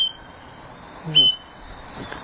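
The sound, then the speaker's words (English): A big red parrot lets out a short, shrill whistling call, followed a moment later by a fainter second chirp against a quiet, hissy background. “That is a big red parrot there.”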